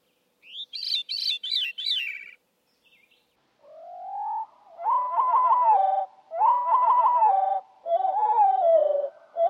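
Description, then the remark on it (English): A recording of wood thrush or veery song: a brief, high, fluty phrase at normal speed, then the same song slowed down to deeper, drawn-out warbling phrases repeated several times with short gaps, clear, no voices. “And they're heard at normal speed and then at slow speed.”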